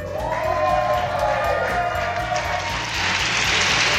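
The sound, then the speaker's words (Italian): A crowd breaks into applause during a Radio Dinamo live broadcast after the theme 'the swamp of Guatemala' is announced: a dense wash of clapping that swells through the second half, over a steady low rhythmic thumping and a brief tonal sound at the start. “Applauso.”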